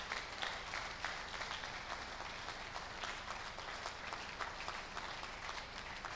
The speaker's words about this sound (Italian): Fatelo forte questo applauso.